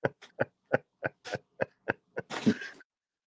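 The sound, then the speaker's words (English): A rapid fit of hacking coughs, about nine short harsh bursts in a steady rhythm, ending in a longer, rougher wheezing cough. No talking. “It gets so frustrating because it's like you can't hardly take a breath and then you're hacking.”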